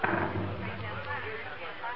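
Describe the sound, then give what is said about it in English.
Cannon fire from the fever cannon in New Orleans rolls in as a low, muffled rumble, dull and sustained rather than sharp, sitting under a steady wash of background noise. “Oh, well, that's just the fever cannon from New Orleans. You can hear it when the wind's right.”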